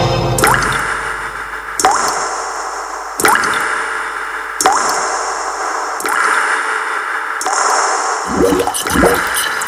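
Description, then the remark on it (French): Shower water supplied by Vivendi runs steadily with a broad hiss, interrupted every second or so by splashing surges and drips. It is fairly loud, with no voices. “Après une bonne douche avec l'eau Vivendi, je me rends au centre de Nice.”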